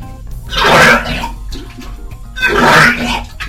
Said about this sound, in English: What the hell were you puking up? It sounds like you were, like, puking up bowling balls or something. The amount of splashing going on.